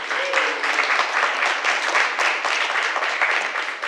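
Steady, sustained applause from a crowd for the panelists of a panel on innovation in cannabis regulation in Washington, a dense wash of many hands clapping at once with no pauses, loud throughout.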